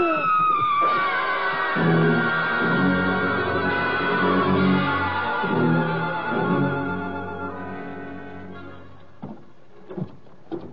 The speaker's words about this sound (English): That was a woman screaming, Louie. Maybe it was a ghost.